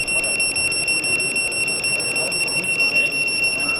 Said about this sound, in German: die Koblenzer Sicherheitstechnikfirma Euro BOS, die unter anderem modernste Sirenen baut und montiert und auch digitale Pager hat für die Feuerwehrleute zur Alarmierung. Wird gerade hier vorgemacht.